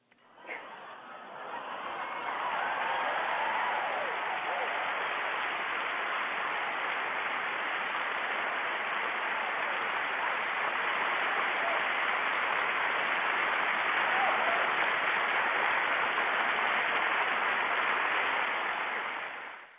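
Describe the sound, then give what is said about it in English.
A crowd applauds steadily for close to twenty seconds, a dense, even wash of clapping that holds at a loud level before tapering off at the end, with no one speaking over it, for a performer who has just recited a spoken-word piece. “Just clap it up for my sister.”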